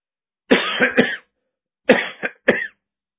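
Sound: coughing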